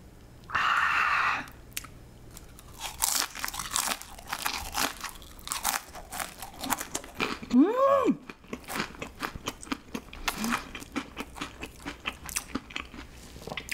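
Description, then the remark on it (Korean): Crunchy chewing of crispy honeycomb-shaped, Chick-fil-A-style waffle-cut fries dipped in mustard and ketchup, with repeated sharp crackling bites and a steady munching rhythm, plus a brief hum-like vocal sound partway through. “벌집 모양으로 만드니까 훨씬 더 바삭하네.”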